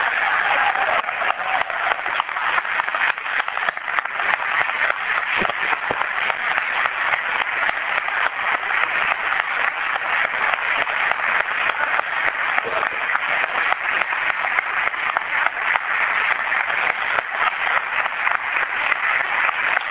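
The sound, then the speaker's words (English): Sustained applause from an audience at a city ceremony congratulating an athlete on an achievement, a dense, steady wash of many hands clapping at an even loudness for the full twenty seconds, with no voices standing out. “So let's have a big round of applause for that.”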